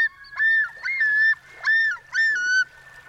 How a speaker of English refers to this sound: To hear a common loon in the wild during the summer, you'll need to find a northern freshwater lake where a pair is nesting. But to find that same common loon in winter, you'll likely need to look on a saltwater bay.